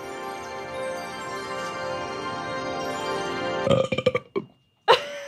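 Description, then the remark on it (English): A long, loud, drawn-out burp at the end of a recited poem rumbles steadily for several seconds, then breaks into a few choppy gulping bursts and a short final belch. No one talks. “Sorry, I always do a burp at the end of that poem.”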